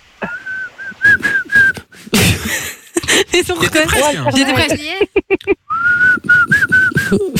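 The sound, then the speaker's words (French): A woman whistles a well-known song melody in short, steady notes, breaks off while people talk and laugh in the middle, then resumes the same whistled tune. “Est-ce que tu as une idée de la chanson que … vient de nous siffler?”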